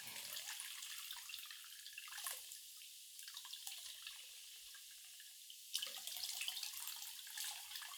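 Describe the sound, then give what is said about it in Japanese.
Carbonated water fizzes on the scalp during a scalp massage in a continuous, bright crackling hiss of tiny popping bubbles, dipping briefly before surging louder again near the end. No voices. “弾ける音がもう気持ちよさそうです。”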